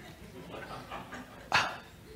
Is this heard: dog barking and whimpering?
yes